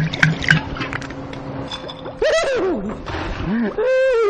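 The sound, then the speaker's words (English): Kahlua liqueur glugs and trickles over ice into a glass for a Black Russian, a wet pouring sound with faint clinks and soft gurgles lasting a few seconds. “We pour it over the ice just like so.”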